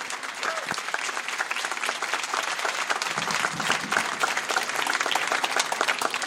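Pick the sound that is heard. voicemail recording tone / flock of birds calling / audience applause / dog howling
audience applause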